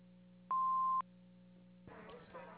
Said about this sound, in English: Please leave your name, message, and phone number after you hear the beep, and we will get back to you as soon as possible.